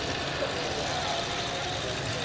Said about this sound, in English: I hear an engine rumbling over there in the distance, but I can't figure out what car is underneath.